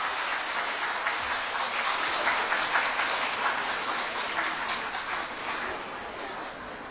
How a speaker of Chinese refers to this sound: 好，好，我们用热烈的掌声啊，感谢法安法师的精彩演讲。